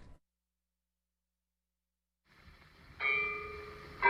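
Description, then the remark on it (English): After a silent stretch and a rising murmur of background noise, a loud church bell rings out at 12 o'clock in the daytime with a sustained, humming tone, and a second strike follows about a second later. “What did I hear at 12 o'clock in the daytime? Church bells ringing?”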